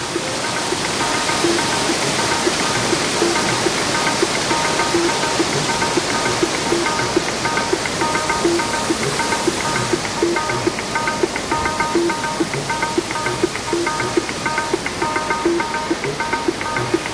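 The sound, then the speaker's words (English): Field recording crossing a landslide area at Zhang Mu on the China border in Tibet, 2,300 meters above sea level: a constant, loud roar like rushing water fills the scene, with faint steady tones and a soft repeating tick beneath it. No one speaks. “a track called …, crossing a landslide area”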